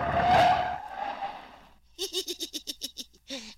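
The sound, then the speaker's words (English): A car skids to a stop with a loud, scraping tire screech that fades out over about a second and a half. A quick run of rhythmic, voice-like bursts follows. “just leave the car here where Elmer will find it when he comes out of the woods.”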